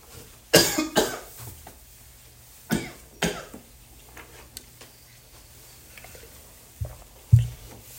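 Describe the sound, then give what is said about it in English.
Several sharp coughs come in quick bursts with short pauses between them, followed by quieter throat sounds and a final cough near the end, with no talking. “You have a cough drop.”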